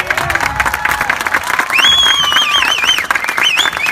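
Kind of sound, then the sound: crowd, audience applause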